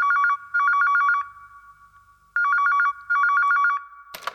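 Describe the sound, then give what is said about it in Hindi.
A telephone rings at night with a bright, trilling electronic tone in two double-ring bursts separated by a pause, then a short clatter as the ringing stops; the call is from Surinder Shinda. “लाओ जी सब तो पहला रात नूं फोन आया सुरेंद्र छिंदा जी दा।”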